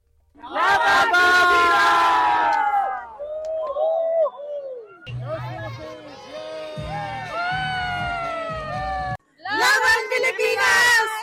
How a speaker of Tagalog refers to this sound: Oo, at yung mga kababayan natin na talaga namang talagang hindi nagpatinag sa mga pag-cheer. Pakinggan natin ang bahagi ng mga cheers na nakuha mo